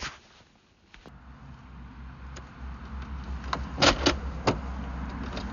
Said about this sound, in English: Just locking the front door of the house, going out, because I think there'll be very little opportunity to go out later on.